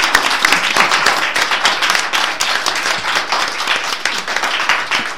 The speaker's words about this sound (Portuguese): Un aplauso, non? Bravo!